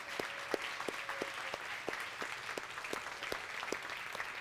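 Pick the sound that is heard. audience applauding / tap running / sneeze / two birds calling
audience applauding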